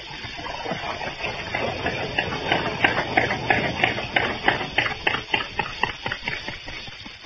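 A boat engine is cranked over, giving a steady run of rhythmic mechanical clattering that grows louder and more pronounced toward the end, with no voices.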